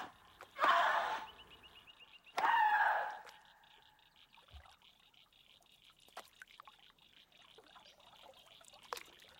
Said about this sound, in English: When the drama is over, she takes off her headphones, goes down to the water, and splashes it with a stick.